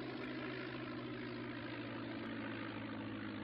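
A steady, droning propeller plane engine roars continuously in flight, its low harmonic hum unbroken throughout with a dense rushing noise layered on top.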